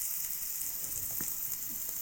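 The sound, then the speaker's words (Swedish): Steaks sizzle steadily in butter in a hot frying pan, a continuous hiss of crackling fat with a few soft pops and clinks underneath, no voices. “Stekljud.”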